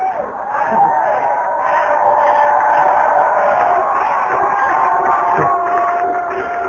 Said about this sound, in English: The last time I heard that much happy yelling was when I joined AA. That was the Oshawa Police Force. We were doing the cheer.